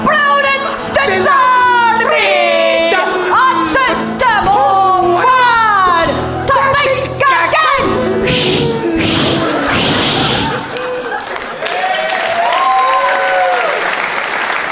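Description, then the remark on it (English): Voices sing Scotland's unofficial national anthem live for several seconds, the melody ending as loud, sustained applause from a crowd breaks out and carries on to the end. “A beautiful and fitful rendition of the closest thing Scotland has to a national anthem there.”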